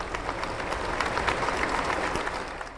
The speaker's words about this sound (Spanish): La comunidad de la Iglesia Católica recibieron con aplausos el recordatorio del sacerdote y mártir Monseñor Arnulfo Romero.